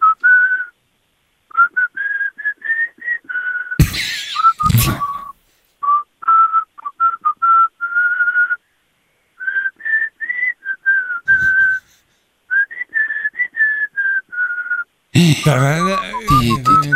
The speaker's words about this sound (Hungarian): Jól fütyülsz?